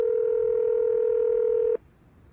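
A telephone line tone on an outgoing call: one steady, mid-pitched electronic hum holds for nearly two seconds, then cuts off abruptly into quiet line hiss, with no voices.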